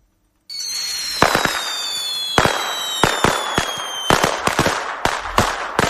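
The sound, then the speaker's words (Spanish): Rapid bursts of firecrackers pop and crackle in irregular clusters, loud, with whistling streaks sliding downward between the bangs and a continuous crackling hiss underneath, as the festivities of Benidorm, Spain approach. “Vamos a hablar hoy con la policía local de petardos, de pólvora, de cómo la debemos y podemos usar también en el caso de los más peques.”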